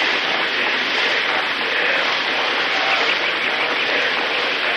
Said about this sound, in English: Listen to my voice as you listen to the sound of the rain. The sound of the rain needs no translation, no explanation.